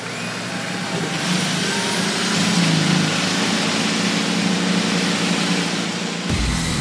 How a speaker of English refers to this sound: Drivers, start your engines!